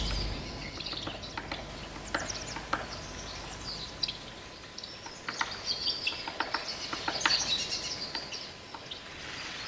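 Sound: birds chirping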